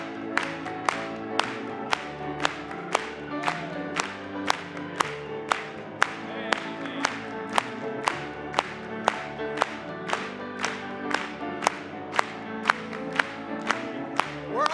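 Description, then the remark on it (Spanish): An audience at a Christian worship service claps in a steady, even rhythm, roughly two claps per second, over music with sustained tones. The clapping is loud and regular, with no talking. “Vamos a aplaudir una vez más.”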